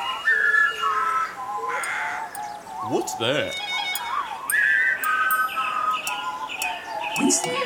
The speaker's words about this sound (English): What's going on up there? Tell me what you see. It's the birds up in the trees.